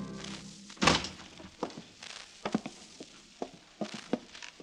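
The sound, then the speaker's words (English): A heavy walnut door at Zender Lodge is unbarred and opened: one loud thunk, then a scattering of softer knocks and clunks over the next few seconds, with no voices. “Zapt drew the bar and opened the heavy walnut door.”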